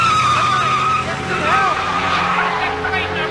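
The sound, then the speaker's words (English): Tires screech loudly as a car speeds away after a woman is pushed out of it, the squeal wavering over a steady engine roar for several seconds, with some voices mixed in underneath. “A woman is pushed from a car that leaves.”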